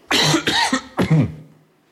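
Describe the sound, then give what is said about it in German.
A person coughs three times in quick succession, the harsh, loud bursts separated by brief gaps, the last one trailing off. No talking. “wir sagen zwischen jedem Huster nochmal Huster 1, Huster 2, Huster 3 und so weiter”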